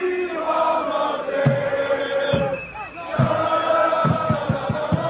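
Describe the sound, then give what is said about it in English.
A large crowd of more than 1,000 Morocco football fans in a downtown park chanting "Dima Maghreb" (always Morocco) and singing in unison as they set off fireworks and dance; loud and continuous, with rhythmic thumps and claps punctuating the chant and a brief dip in the middle. “From a downtown park, more than 1,000 Morocco fans set off fireworks and chanted Dima Maghreb, always Morocco, as they sang and danced.”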